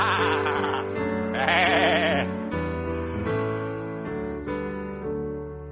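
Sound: sheep bleating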